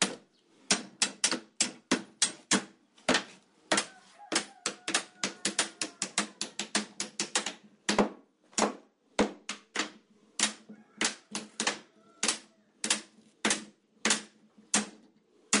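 Blacksmiths hammer metal, playing the blacksmiths' anthem, rhythms known only to blacksmiths, in a steady rhythmic pattern of sharp, ringing strikes that quicken into rapid bursts and then slow again, with no voices over the clanging.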